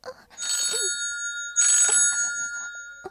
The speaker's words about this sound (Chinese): 你看，这不是你电话吗？什么声音呢？电话声音太难听了，快接！